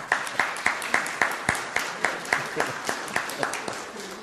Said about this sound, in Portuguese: a quem eu não tenho como falar sem pedir uma salva de palmas para sua mãe.